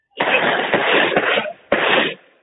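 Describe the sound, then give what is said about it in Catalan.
A rapid volley of ceremonial blunderbuss shots fired by the neighbourhood trabucaires to officially inaugurate the Biblioteca Gabriel García Márquez, outside the library: about four loud, overlapping blasts in under two seconds, each a sharp crack trailing into a broad roar of noise before fading out. “Amb aquests trets inaugurem oficialment la Biblioteca Gabriel García Márquez.”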